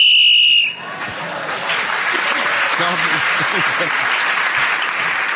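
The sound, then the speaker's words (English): A loud, sustained whistle blast lasting under a second ends a panel-game round, with Clement Freud keeping going to the whistle and gaining the extra point. It quickly gives way to steady applause from an audience that continues to the end. “So, Clement Freud, keeping going to the whistle, when gained the extra point, and with a little help from his friends here, has gained a number of points in that round, and he's now in the lead ahead of Paul Merton and Bill Bailey.”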